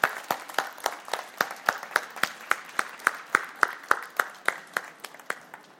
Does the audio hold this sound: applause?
yes